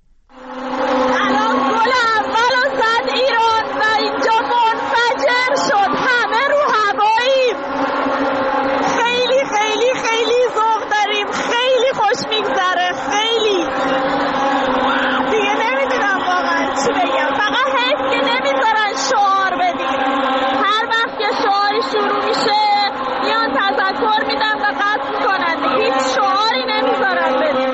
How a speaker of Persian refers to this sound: هم باز صدا از داخل استادیوم یکی از خانم‌ها برای ما فرستاده. ببینیم بعد از اولین گل چه اتفاقی افتاده.